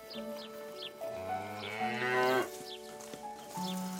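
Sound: cows mooing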